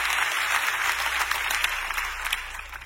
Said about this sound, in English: Clap your hands if you're ready for what the Lord is going to speak to you today.